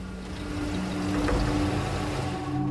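Vehicle engines run steadily, a continuous low rumble with a faint hum, as cars arrive in a convoy at a dusty rendezvous point with crisscrossing headlight beams; no one speaks.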